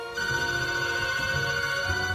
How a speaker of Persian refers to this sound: بابا آرتمیس به تلفن جواب نده.